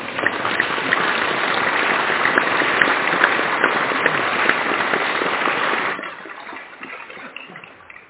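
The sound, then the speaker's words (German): An audience applauds after a Christian blessing with dense, steady clapping for about six seconds, then the clapping thins out and trails off into a few scattered claps. “Wir können Applaus bekommen.”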